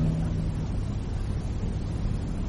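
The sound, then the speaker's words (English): A steady rumble of a car being driven on the wrong side of the road, on its way to Charles Whitten Motors of Ballard, with continuous low engine drone and road noise holding even throughout, no voices. “You're driving on the wrong side of the road.”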